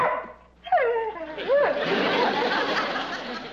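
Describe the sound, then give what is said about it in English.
A dog barks in a short burst of yelping, pitch-sliding cries, fairly loud, followed by a dense, noisy wash of sound that carries on to the end. “Dog is almost human.”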